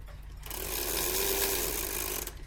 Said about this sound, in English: Hear all the clock ticking. Got some cuckoos to wind.